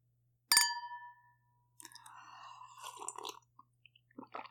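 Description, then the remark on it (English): Glasses clink together once in a toast, a bright ring that fades over about half a second. Quieter scraping and handling noises follow, with a few soft clicks near the end. “Hey, cheers.”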